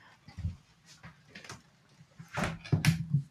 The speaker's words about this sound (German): Warte, ich muss kurz Fenster zumachen, jetzt regnet es nämlich.